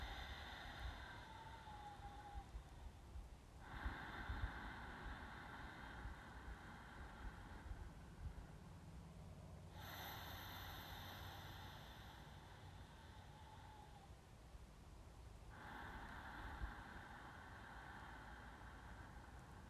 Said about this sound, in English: Breathe gently in and out through your nose. Find that soft sound that we call ujjayi breath in yoga, of slightly closing the back of your throat as you breathe in and out to make this ocean-like sound.